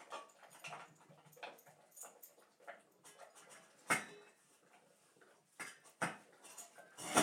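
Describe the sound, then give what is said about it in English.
A dog laps and licks at its metal food bowl, wet slurping sounds mixed with repeated clinks and knocks of the bowl shifting, steady and busy throughout. “When he has water on it, he licks the bowl and licks the bowl.”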